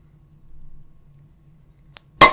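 A drink is opened: a sharp click, then a loud pop and a burst of fizzing hiss that carries to the end, after a near-silent stretch with only faint handling noises.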